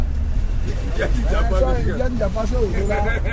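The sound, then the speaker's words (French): A steady low engine rumble from a crowded passenger bus heading for PK12, about ten passengers seated two per seat, with several voices chattering over the drone; neither driver nor passengers wear masks. “Dans ce bus, personne ne se protège, ni le chauffeur, ni les clients.”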